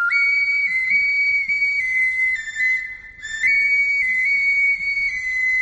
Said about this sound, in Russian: Таш Сыбызги называется каменный свисток, шуншушпык, глиняный соловей марийский.